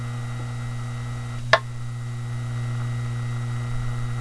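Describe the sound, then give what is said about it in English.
A half-amp, 1800 RPM fan motor running on a pure sine wave inverter hums steadily and evenly, a low electrical drone with faint buzzing overtones, broken once by a brief sharp click early on. No one speaks. “Now we will switch to a pure sine wave inverter.”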